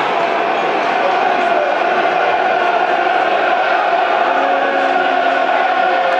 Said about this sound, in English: Crowd trying to get behind the Lions, dear listeners. Urge them on.